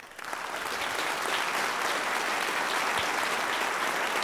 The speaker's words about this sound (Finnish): Erittäin asialliset aplodit hyvästä vastauksesta.